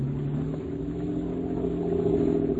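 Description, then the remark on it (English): A motorboat engine roars at full throttle as the boat tries to get away, a loud, steady droning hum that holds constant without letup, with no voices. “Open her up and get away, Scotty. Give her all she's got.”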